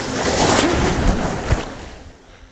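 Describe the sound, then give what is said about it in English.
Ocean surf breaking in North Donegal on a late summer night as a swimmer makes their way out through the breakers, a loud, broad hissing wash that holds steady, peaks briefly, then fades and subsides, with no voices present. “Just swimming my way out through the breakers here.”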